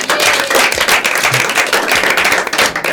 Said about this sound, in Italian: E poi con il nostro Indovina chi entra in scena avete dimostrato di essere sul pezzo. Bravi, un applausino.